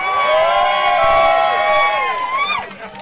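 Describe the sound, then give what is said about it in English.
A crowd cheers and whoops loudly for about three seconds at Captain Parker's on Parade Weekend, many raised voices holding high, sustained tones before trailing off with a few rising shouts at the end. “Everybody, a big cheer for Captain Parker's on Parade Weekend.”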